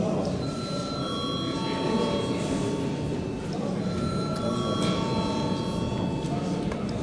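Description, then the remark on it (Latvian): A parliament session bell rings continuously for several seconds before a vote on a bill, a steady, sustained electric tone with bright overtones, over a low, constant murmur of voices and room noise. “Lūdzu zvanu.”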